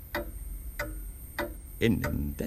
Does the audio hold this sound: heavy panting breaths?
no